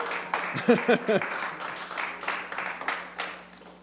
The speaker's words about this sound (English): Yeah, go ahead and clap if you want to.